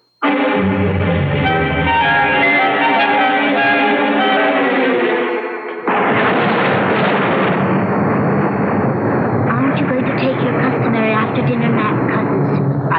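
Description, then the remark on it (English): Loud, rolling thunder from a storm fills the second half, a continuous crashing rumble, following a sustained droning, tonal passage in the first few seconds. “First, there's this dreadful storm, and then the Reverend Patton's expected almost any moment.”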